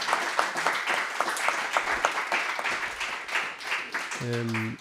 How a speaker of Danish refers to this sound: Og jeg synes, vi skal klappe, så dem ude i den anden ende kan høre, at der sidder nogen her.